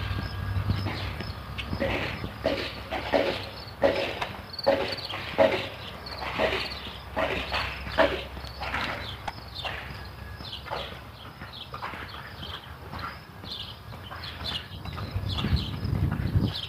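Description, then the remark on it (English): Lawn sprinklers tick in a quick, steady run of sharp dry clicks that thin out toward the end, over a low hum with faint chirping insects or birds in the background. “Ah, sprinklers.”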